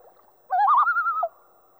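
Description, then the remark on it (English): A single owl tremolo call of the type 3 variant, a step higher in pitch than the other types: a quick, quavering whistle that steps up in pitch and holds for under a second, clear against a quiet background. “And finally, the type 3 tremolo goes a step higher.”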